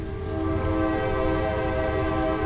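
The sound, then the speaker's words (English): A train horn blares in one long, steady, sustained blast over the low, continuous rumble of a train passing through downtown Coshocton, Ohio, loud throughout. “The railroad runs right through town.”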